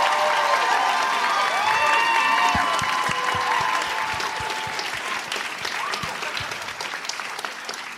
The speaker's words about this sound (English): Well, after that round of applause, I'll take Breaking Bad.